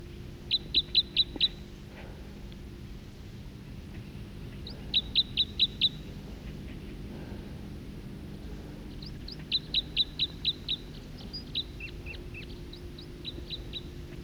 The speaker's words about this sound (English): song of a bird right close.